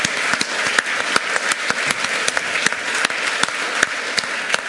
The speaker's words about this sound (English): Can I just get a round of applause for those guys, the people who are trying to provide free Wi-Fi?